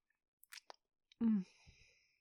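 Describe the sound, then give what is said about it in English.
Crunching as someone chews crisp food with little crunchy bits: a few sharp, dry bites, then a short voiced murmur with softer chewing continuing underneath. “I love the little crunchy bits in this.”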